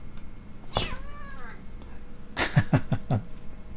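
cat meowing

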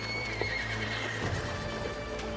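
horses galloping and neighing

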